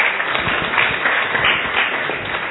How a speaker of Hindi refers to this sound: तो इनके लिए एक बड़ा हाथ ताली बजाओ फिर से.